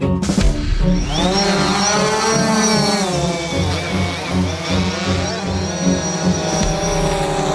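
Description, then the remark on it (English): A steady drone propeller buzz with a high whining pitch that wavers and shifts as it hovers, loud and continuous with no voices. “replace that annoying buzzing sound”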